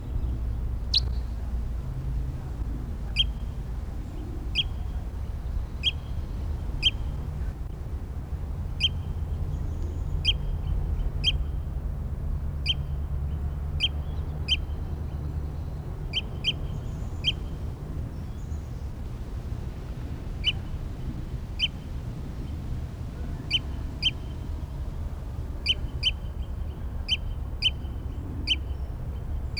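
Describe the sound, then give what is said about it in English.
A bird, numbered 306, calls over and over while being recorded, with short, high, sharp chirps, often in quick pairs, repeating irregularly throughout over a steady low background rumble. No one speaks. “Stop. It's bird 306 again.”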